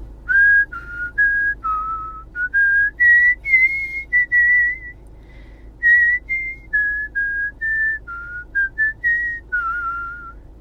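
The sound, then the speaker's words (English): A woman whistles a melody solo, clear, with short phrases of sustained notes that rise and fall, punctuated by brief breaths between them. “Here's Ben's girlfriend, …, whistling.”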